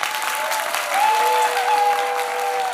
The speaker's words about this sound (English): And the crowd goes wild.